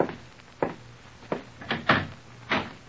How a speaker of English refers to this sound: Open the door, will you